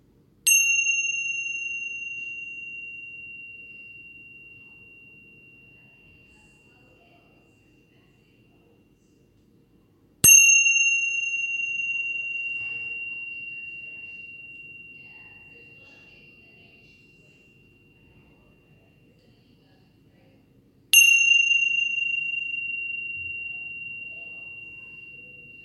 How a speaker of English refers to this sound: And then listening for the bell signaling the drawing of a close, coming towards the end of this practice.